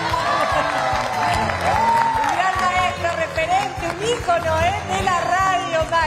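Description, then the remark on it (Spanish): A crowd applauds steadily and loudly for several seconds at a radio awards night, following the 2021 award for best radio announcing work. The dense clapping is mixed with cheers, whoops and overlapping shouting voices throughout. It is one of the biggest rounds of applause of the night. “Uno de los grandes aplausos de la noche.”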